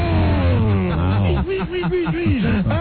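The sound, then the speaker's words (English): A voice imitates a pack of race cars coming by and passing during a race, starting with a long buzzing engine drone, then a rapid series of rising and falling vocal whooshes, loud. “And they come by and it's like...”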